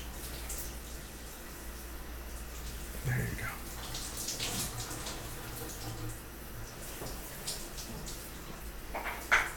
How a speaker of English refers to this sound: Keep your eyes closed though, because water's running everywhere. I don't want to get in your eyes.